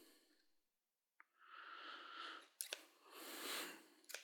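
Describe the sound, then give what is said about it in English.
A few quiet scissor snips, sharp clicks spaced irregularly over a few seconds, with soft swishing, breathy noise filling the gaps between cuts. “of wondered what it would be like to, you know, chop off a finger or a nose with a scissor, a pair of scissors like this.”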